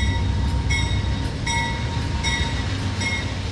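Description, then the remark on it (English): A passenger train carrying New Orleans evacuees arrives at a station in Memphis in the early hours of Sunday, rolling in steadily with a deep continuous rumble, while faint high wheel squeals come and go at roughly regular intervals. No one speaks. “2,000 tired, hungry, and overwhelmed New Orleans evacuees arrived in Memphis by train during the wee hours Sunday.”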